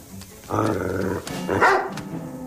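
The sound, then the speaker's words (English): A dog wearing a priest's collar barks, two drawn-out, loud vocal bursts one after the other with a brief pause between them, no people talking. “A dog wearing a priest's collar.”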